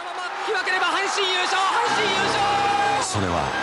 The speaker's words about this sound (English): And the crowd goes wild. There are people sobbing. They are so excited. There's all this pent-up excitement.